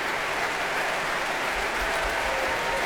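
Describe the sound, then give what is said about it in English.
Sustained applause from a concert audience at the Proms for the Russian National Orchestra, conducted by Andrei Borieko, after Tchaikovsky's Third Suite, now for section principals such as oboist Vitaly Nazarov; a dense, steady wash of many hands clapping at an even, fairly loud level, with no voices. “Applause for section principals now, the oboist Vitaly Nazarov.”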